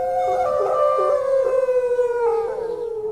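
A chorus of neighborhood dogs howling together, one starting and the rest joining in, long wavering overlapping howls that rise and slowly fall in pitch, sustained and fairly loud throughout with no talking.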